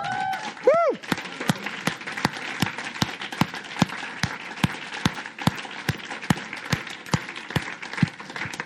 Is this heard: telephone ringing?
no